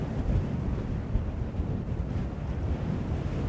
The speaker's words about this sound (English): So it's really windy now. We're right on a viewpoint. Some massive rocks in front of us. Full force of the wind.